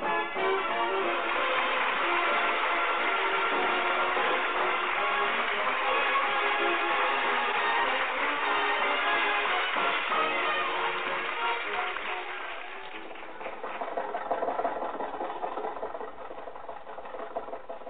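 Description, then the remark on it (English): Jack's car, driven by Rochester on the way to Pasadena, labors steadily uphill with a strained, rattling engine drone that holds for about twelve seconds, then eases off into a quieter, uneven chugging. No one speaks. “Do you think your car will make this hill, Jack? Sure. Rochester, give it a little more gas.”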